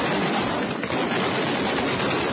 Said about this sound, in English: Anti-aircraft artillery send a hail of gunfire into the sky over Ras Lanuf, some 340 miles east of the capital Tripoli, as Libyan warplanes launch at least four airstrikes in the area.